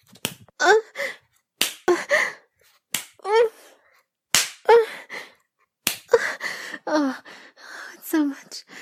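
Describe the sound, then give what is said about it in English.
Five loud, sharp slaps of a hand on a bare buttock land at irregular intervals of one to two seconds, each followed by breathy gasps and vocal sounds from a voice. “That's when I hear the first loud slap of your hand hit my ass.”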